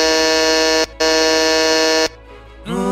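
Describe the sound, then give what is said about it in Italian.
An intercom buzzer rings in two loud, flat electronic bursts, a short gap between them, the second held for over a second, followed by a brief rising tone at the end. “Hanno suonato il citofono!”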